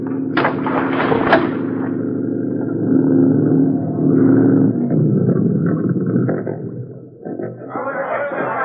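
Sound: gunfire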